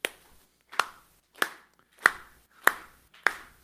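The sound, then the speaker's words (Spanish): An audience claps along with the speaker in a steady rhythm to demonstrate rhythm, six sharp, crisp claps evenly spaced a little over half a second apart, with brief silent pauses between them and no talking. “Ahora, ritmo, ahora todos aplaudan conmigo.”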